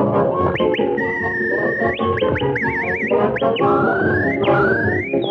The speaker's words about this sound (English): That was me whistling.